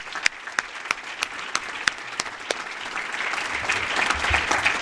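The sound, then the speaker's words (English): A crowd claps steadily in a round of applause for Mayor Rogers and Judge Imes, starting with a few distinct sharp claps that quickly blend into dense, sustained applause growing fuller and louder toward the end. “If you're here, can we give them a round of applause?”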